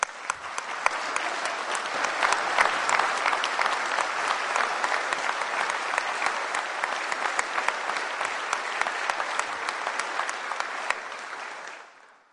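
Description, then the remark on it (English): Sustained applause from an audience at a state budget speech, honoring a MAP grant scholarship student, a dense wash of many hands clapping steadily for about twelve seconds before tapering off abruptly at the end. “Please give a round of applause to a great family man and a hard worker”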